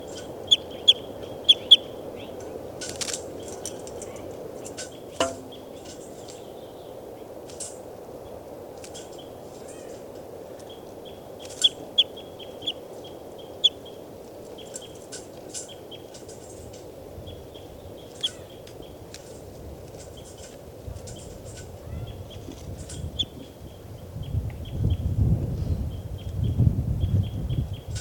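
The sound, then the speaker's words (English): Scattered calls of a recorded bird, logged as bird number 392: short sharp chirps and thin high notes repeat irregularly over a steady hiss of background noise, with a low rumble rising toward the end. No one speaks. “Start recording, this is bird 392.”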